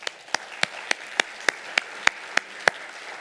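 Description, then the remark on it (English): A Unity spiritual community audience claps in a steady, even rhythm, about ten sharp claps roughly three per second over a soft background hiss, with no voices. “Let us applaud this wonderful day.”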